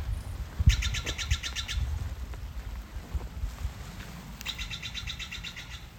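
A crested conifer jay, officially called Steller's jay, calls from ponderosa pines in two quick bursts of harsh, rapidly repeated notes, clear, over a steady low rumble of wind.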